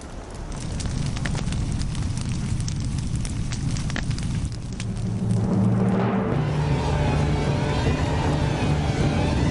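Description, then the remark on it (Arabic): Reeds in a marsh, set alight on purpose, burn in a big fire, popping and crackling sharply at first, then swelling midway into a steady, loud roar with a deep rumbling undertone. No voices. “سأضرم النار بالقصب كي تصيب زعقاتها المحرقة السامعين كلهم بالجنون.”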